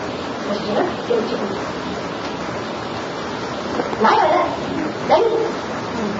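A dog lets out a few scattered barks and whimpering yelps, fairly close, over a constant rushing background like surf or wind.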